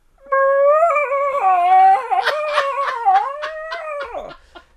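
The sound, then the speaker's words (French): A person imitates a whale call with one long, loud, wavering moan lasting several seconds, sliding up and down in pitch before trailing off in a falling whine. “Fais-moi donc le bruit de la baleine.”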